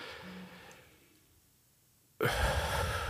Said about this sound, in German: Atmen wie die Opernsänger. Das heißt also dreimal tief in den Bauchraum ein- und ausatmen. Also wir machen es mal.